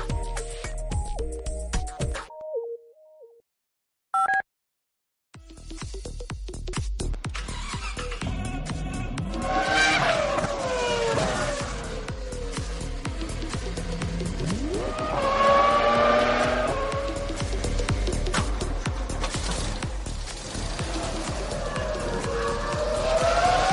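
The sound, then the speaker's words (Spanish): The motoring-segment signature tune on COPE radio: a short musical opening, a brief pause, then roaring race car engines with rising and falling revs and sharp tire squeals, loud and continuous, with no talking. “Y 51, suena la sintonía del mundo del motor,”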